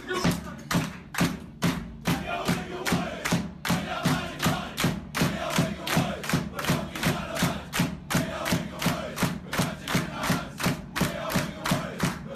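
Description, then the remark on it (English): A big drum, banged by a rugby player making his debut, booms in a steady, driving beat, roughly two hits a second, while the Wigan Warriors rugby team's players sing a club song loudly together over it, energetic. “all the boys sing a song, which I take is a club-related song, and the guy who is playing for the first time bangs the drum.”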